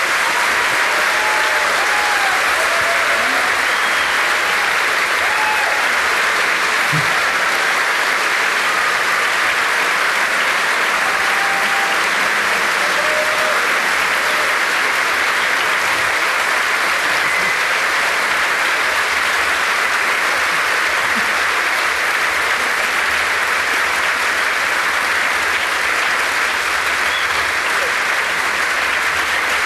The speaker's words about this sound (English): Thank you all very much for the thundering applause.